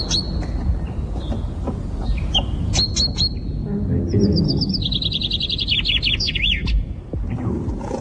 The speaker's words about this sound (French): d'abord on va assister à un truc très très étonnant, c'est les pinsonniers. Écoutez les petits oiseaux et ces messieurs qui jouent au pinson.